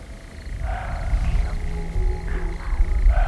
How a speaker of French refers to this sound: C'est calme. Il y a un chevreuil qui aboie.